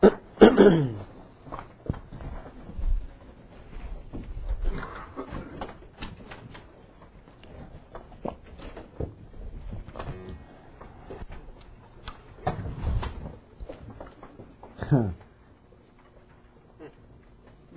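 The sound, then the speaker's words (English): A glass of water is knocked over among electronics with a sudden clatter near the start, followed by scattered knocks, taps and shuffling sounds, with no one speaking. “I just knocked my water over up here around all these electronics.”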